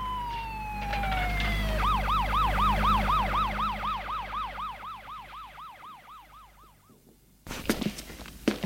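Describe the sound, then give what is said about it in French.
A gendarmerie police car siren wails in a rapid up-and-down yelp over a low engine rumble in Lyon, gradually fading before an abrupt burst of noise at the end. “Une demi-heure plus tard, une voiture de la gendarmerie les embarque à Lyon.”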